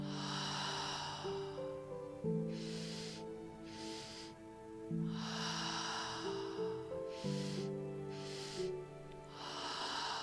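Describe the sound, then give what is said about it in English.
Deep, forceful breaths rush in and out in a steady rhythm, each one loud, with sustained low tones droning beneath them. “And breathing in for a few more rounds here. So giving it your all, letting your breath be big and bold.”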